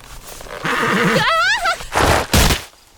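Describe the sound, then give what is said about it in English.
A horse whinnies, a shaky, quavering call that slides downward, then gives two loud, breathy snorts right after. “get off the horse”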